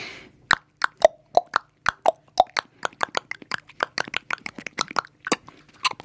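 A solo of hollow horse-hoof clops within a western music song, first spaced and uneven, then settling into a quicker, steady trotting rhythm of sharp, bright knocks with nothing else playing.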